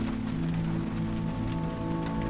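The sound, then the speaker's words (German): Steady rain falls on a summer day in Hamburg, around a bus carrying tarp-covered luggage on its roof. It is a dense, continuous hiss of drops pattering on a hard surface, with a low rumbling hum beneath, fairly loud, with no voices. “Zum Glück, denn es regnet.”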